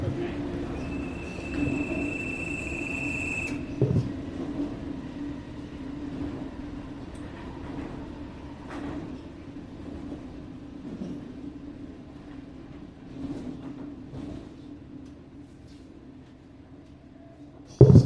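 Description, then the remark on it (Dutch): A sleeper train to Paris rolls steadily along the rails with a continuous low rumble and clattering, a brief high squeal early on, and occasional faint knocks throughout. “Ja, maar we moeten wel nog even doorlopen, want de trein naar Parijs gaat over 4 minuten.”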